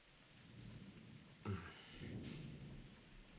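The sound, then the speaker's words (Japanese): Steady heavy rain hisses throughout a stormy scene, broken by a sharp thunderclap about midway, then a low rolling rumble as the downpour continues. No one speaks. “こんな嵐みたいな天気じゃ、折りたたみ傘どころか君まで飛んでいっちゃいそうで。”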